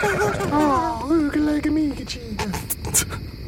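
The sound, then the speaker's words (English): A person imitates a horse's whinny for a tiny horse with a top hat on, named Gubnit: a wavering, quavering vocal neigh that slides downward, followed by a few short breathy puffs. “Look, children, play with your mother's tiny horse with a top hat on.”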